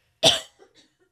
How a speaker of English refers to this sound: and I have to cough. Okay, it's okay.